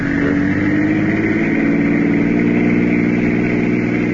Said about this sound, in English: Faster, Richie. See if that car stays with us.